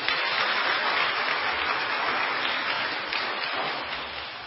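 A group applauds steadily, a dense wash of many hands clapping with no speech, holding at an even level before tapering off slightly toward the end.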